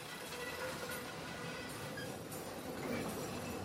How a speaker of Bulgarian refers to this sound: 1938 година. На вечерието на Великден. Мина Орлово гнездо. Намира се между Айтос и Бургас. Чува се тракането на вагонетките.